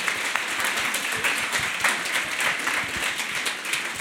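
Sustained applause from an audience, a dense, steady wash of many hands clapping at once, loud and close, filling the whole stretch without any talking.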